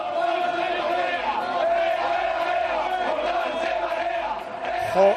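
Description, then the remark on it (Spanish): A loud crowd of Betis fans chants in unison at the player Jordán after a football match has ended, many voices holding a steady, droning shout for about five seconds, with a brief louder burst right at the end. “Por ejemplo, los béticos le gritan esto a Jordán.”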